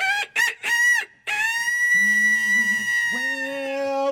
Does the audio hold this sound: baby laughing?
no